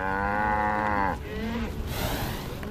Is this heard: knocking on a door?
no